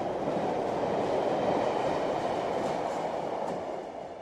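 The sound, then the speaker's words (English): A train rolls steadily along the rails from Paris to the port of Sète on the Mediterranean coast in December 2003. It makes a dense, continuous rumble with faint rattling that holds loud before easing off slightly at the end. “About 10 days before Christmas in 2003, Werner Spies, one of the world's preeminent experts on 20th century art, took the train from Paris to the picturesque port of Sète on the Mediterranean coast.”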